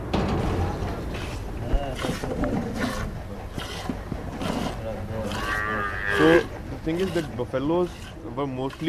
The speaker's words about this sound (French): nous présente les bovins gardés dans un large enclos. Là, ce sont les vaches. Et à côté, les noirs que vous voyez, ce sont les buffles.